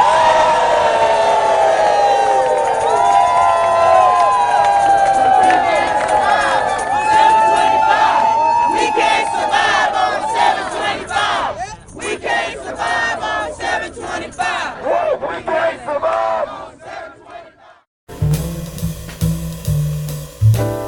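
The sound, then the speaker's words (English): A large crowd screams and cheers at a rally, loud and sustained with overlapping high-pitched shouts, then thins into scattered yells before cutting off abruptly. “Now somebody scream.”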